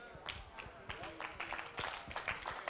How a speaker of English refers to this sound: You see the men clap, the women like, I don't understand that.